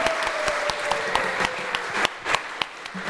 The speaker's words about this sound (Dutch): Zullen we nog een klein applaus geven voor die geweldige Maria, Jozef en de baby?